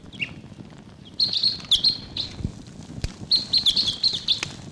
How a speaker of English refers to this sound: There may be foraging here in Barfoot Park. I don't see anybody, but they may be coming close. Decoys are really excited here. Type 6. Wild bird calling in the distance there.